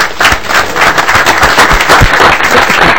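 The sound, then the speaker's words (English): Members at a joint legislative committee meeting applaud a task force for its work on a legislative charge: a dense, steady wash of many hands clapping at once, loud and sustained for the whole stretch with no voices standing out. “We do have a joint rule that we can applaud the task force for their excellent work on the legislative charge.”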